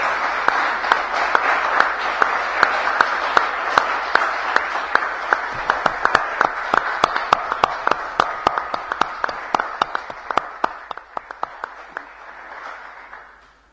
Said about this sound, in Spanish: Para todos ellos quiero pedir de parte de este honorable cuerpo un fuerte aplauso.